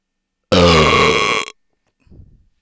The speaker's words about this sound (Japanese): こんなゲロみたいなゲップでも興奮するんだ君。ちょっと引いちゃうな。私のゲップでいっちゃえ。